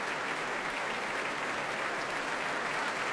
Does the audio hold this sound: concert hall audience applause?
yes